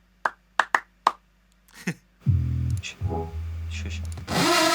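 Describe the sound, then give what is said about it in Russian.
Four sharp hand claps ring out in a quick, slightly uneven rhythm against near silence, followed by a loud stretch of steady, rumbling noise. “Мой возьми, у меня качественные хлопки.”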